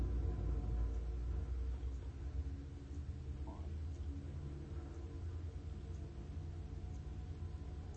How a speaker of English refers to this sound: Maybe you're hearing the trucks outside of my window saying, that's getting in the way of me being able to meditate. But that's how it is right now.